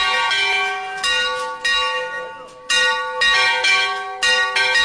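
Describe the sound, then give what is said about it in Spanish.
A festive peal of church bells, the festival ringing, rings out loudly, with repeated overlapping strikes in a lively, uneven rhythm and long shimmering tones sustaining between hits. No voices are heard. “Y por supuesto, las campanas siempre han marcado también la fiesta. Ese es el toque de fiesta, que es un poco distinto del de la procesión.”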